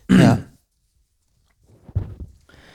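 A loud throat clearing bursts out at the start, followed by a short silence and then a few quieter, rougher throat sounds near the end.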